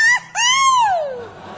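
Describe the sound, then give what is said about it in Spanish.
Meryl Streep lets out a loud, high-pitched scream in San Sebastián: a short cry, then a longer wail that swells and slides downward before trailing off, alone with no talking. “Y Meryl Streep, también en San Sebastián, incluso lanzó un grito.”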